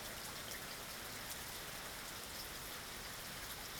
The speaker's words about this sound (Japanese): 道中、彼らは雨に濡れた花や葉っぱを眺め、雨音を聞きながら森を歩きました。